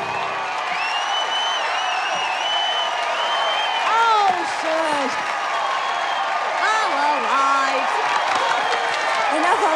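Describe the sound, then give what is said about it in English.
A large audience applauds steadily for the full length, loud and dense, with excited voices cheering and whooping over the clapping. “Girls revel in the applause.”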